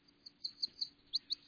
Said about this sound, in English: The sweet slurred song of the yellow warbler